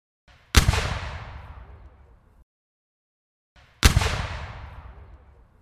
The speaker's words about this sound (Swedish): smäller 2 kanonskott. Och det är inte dalkararnas kanoner? Nej, det är armén som har passat på att ladda sina kanoner med druvhagel. Och drar alltså av 2 skott rakt in i den här folkmassan, och de står som packad sill.